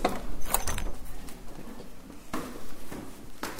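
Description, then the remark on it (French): The heavy door of the Saint-Aurélien chapel is pushed open with a few clunking, knocking sounds from the latch and hinges, moderately loud, with no one speaking. “Alors nous, on va pousser la porte de la chapelle puisqu'elle est accessible.”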